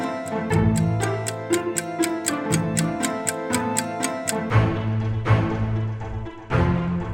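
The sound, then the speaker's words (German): A clock ticks in a quick, steady rhythm over bouncy background music, the ticking stopping about two-thirds of the way through while the music carries on. No one speaks. “Schon auf dem Weg, denn die Zeit tickt.”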